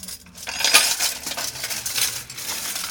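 Dishes clink and clatter repeatedly as they are handled and cleaned, a steady run of close, bright metallic and ceramic knocks with no voices.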